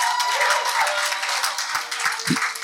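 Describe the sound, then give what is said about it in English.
A group claps steadily for a female student who answered about polynomial equations, the dense patter of many hands filling the whole stretch at a fairly even loudness with no voices on top. “Come, can we clap our hands together for her?”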